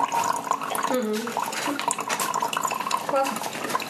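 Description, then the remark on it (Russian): Water pours steadily into a container, a continuous splashing gurgle whose pitch rises in short sweeps as the vessel fills. “Все, я долил всю воду.”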